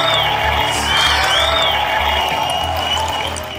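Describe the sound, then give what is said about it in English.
A large crowd applauds and cheers loudly and steadily after Apple announces the iPhone at a keynote, a dense wash of clapping with scattered whoops, sustained throughout before easing slightly at the end. “We had to edit this down because the applause just went on and on and on forever.”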